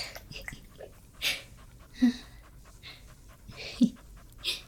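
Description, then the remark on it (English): A dog pants in a steady rhythm of breathy huffs, with a few sharper exhalations standing out between them, and no one speaking. “Dog like me.”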